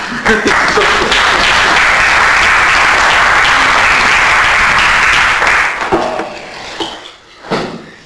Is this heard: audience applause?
yes